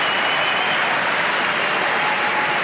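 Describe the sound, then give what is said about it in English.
A tennis crowd bursts into sustained applause after Felix Auger-Aliassime hits a winning shot in a rally against Alcaraz, a dense, steady wash of clapping that stays loud throughout with no voices standing out. “But this time, Felix sticks out his racket, hits the winner, and the crowd loving it.”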